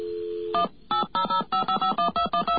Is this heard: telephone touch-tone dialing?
yes